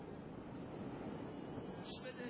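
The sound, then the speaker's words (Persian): A steady, rushing wash of waves breaking, a continuous broad roar of surf with no pauses, fairly loud and filling the whole moment. “صدای موج داشت. فهمیدم به آب دارم نزدیک میشم.”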